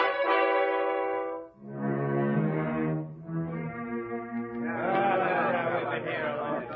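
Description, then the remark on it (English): Long, sustained brassy tones sound in three bursts, then a dense, loud crowd of overlapping voices rises and keeps chattering to the end. “God, silence the crowd. Quiet! Quiet!”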